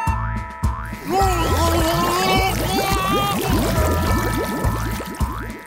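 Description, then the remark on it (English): Water glugging and bubbling as a mud boat sinks, in a rapid, continuous run of rising bloops, fairly loud, over a steady thumping rhythmic backing. “The raccoon went glug, glug, glug, and together with his mud boat, he sunk to the bottom of the sea.”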